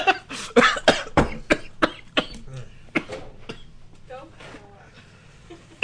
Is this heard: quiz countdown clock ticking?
no